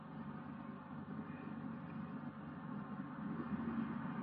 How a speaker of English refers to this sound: You realize that over there, a mile or two, there's a bus running. Doesn't affect you, does it?